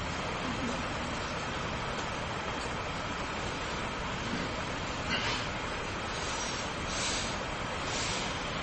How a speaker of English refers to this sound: The train now.